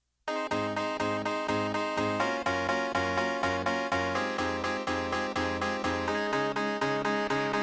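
An upbeat song intro starts abruptly and plays loudly, with bright, bouncy staccato chords driven by a steady, pulsing beat and a repeating bass line. There are no vocals yet.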